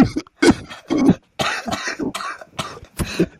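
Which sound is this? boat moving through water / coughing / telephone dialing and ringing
coughing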